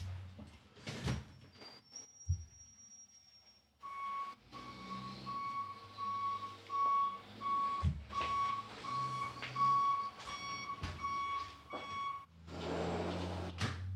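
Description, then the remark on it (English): A truck rumbles past outside, its low engine noise swelling and lingering for several seconds, with a steady high beeping tone and a few sharp knocks and thumps. “Okay, a truck's coming by. I have to close a window.”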